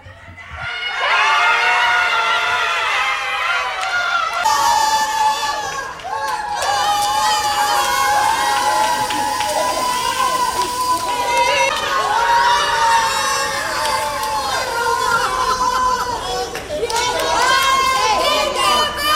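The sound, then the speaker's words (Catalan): A crowd erupts in loud, sustained cheering and excited shouting, high voices whooping and screaming in waves that stay intense for the whole stretch, as people learn they have won the day's second prize in the Christmas lottery, sold at the Les Arenes shopping centre in Barcelona. “Així s'ha viscut el moment de conèixer que rebien el segon premi del dia.”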